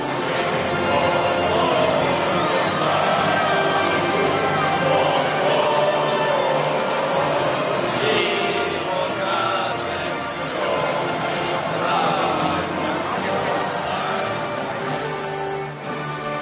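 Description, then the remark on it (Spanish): A stadium crowd at a Spain versus Ukraine match gives a sustained ovation for the national anthem of Ukraine, a dense, steady roar of cheering and applause that holds at a loud, even level for the whole stretch with no individual voices standing out. “Ovación para el himno de Ucrania cuando va a sonar el himno nacional de España.”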